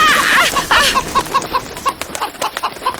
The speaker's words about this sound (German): Scheint ganz so, als sei die Henne nur wenig begeistert davon, dass du sie beim Futtersuchen störst.